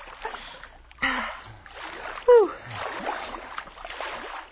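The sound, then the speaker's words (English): Repeated sloshing splashes of water as someone wades ashore through shallows, coming in uneven surges, with a brief sharp vocal gasp partway through. “You think it's safe to wade ashore?”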